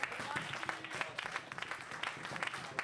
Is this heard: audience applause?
yes